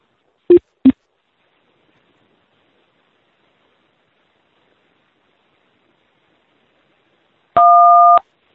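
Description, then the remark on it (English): Two quick clicks, a long stretch of silence, then a single steady telephone keypad beep lasting about half a second, clear, with no voices, on a conference call line as a caller's line is muted. “Line muted. Press #1 to speak.”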